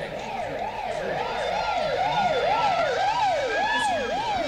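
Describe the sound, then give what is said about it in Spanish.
Sirens of a passing ambulance and police patrol cars wail in quick, repeating rise-and-fall sweeps, loud, holding steady throughout over a low rumble of street traffic, with no one talking. “Vi pasar una ambulancia. Patrulleros de la policía.”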